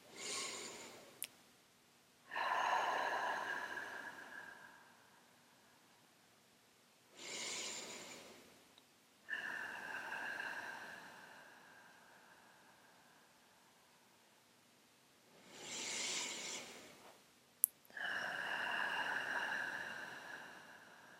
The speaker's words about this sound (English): Now let's take a few deep breaths, breathing in through your nose and out through your mouth.